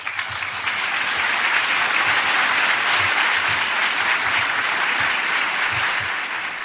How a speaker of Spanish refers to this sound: Seguimos escuchando los aplausos por esa laudatio del profesor Francisco Sala Merchán, que es catedrático de farmacología de la UMH.